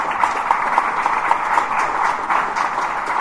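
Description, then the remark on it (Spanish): A crowd applauds steadily for a few seconds, a dense, even wash of many hands clapping together, with no voices standing out, giving a strong round of applause for a woman being recognized as an Ambassador for Peace by the Universal Peace Federation. “Así vamos a convocar en primer lugar, digamos, un fuerte aplauso para ella,”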